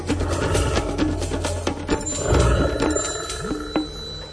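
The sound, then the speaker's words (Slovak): A loud, busy musical jingle of the nature calendar program, layered with the roars and calls of various animals, punctuated by sharp percussive hits and bell-like tones, with no one talking. “Zvuky revu rôznych zvierat sú aj vo zvučke nášho kalendára prírody a práve možno o tých zvukoch bude reč aj dnes v kalendári prírody s Miroslavom Sanigom, ktorý je už na linke.”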